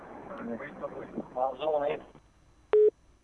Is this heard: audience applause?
no